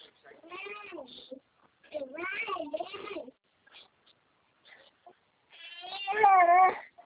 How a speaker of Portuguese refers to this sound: Para de choro, filha. O que você quer?